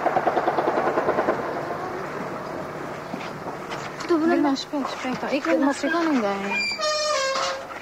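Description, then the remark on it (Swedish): A rapid, evenly spaced burst of heavy gunfire from an afternoon gang fight around a house in Vlora rattles for about two seconds, bullets passing just over the house, then a man speaks over a low rumble while scattered shots continue faintly beneath his voice. “Som ni hör så är det kraftig skottlossning runt huset här.”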